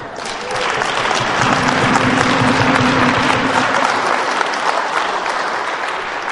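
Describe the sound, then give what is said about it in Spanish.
An audience claps steadily for a man who plays an instrument, a dense, loud wash of applause that swells in quickly and holds strong before easing slightly toward the end. “Ahora, no solo lo van a aplaudir ellos, yo lo aplaudo a usted, señor.”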